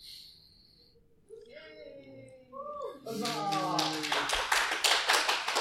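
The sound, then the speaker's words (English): A few voices call out, then the audience at a live convention show on steampunk in pop culture breaks into applause about halfway through: dense, steady clapping from many people that grows loud and continues to the end, with cheering mixed in. “Hold your applause.”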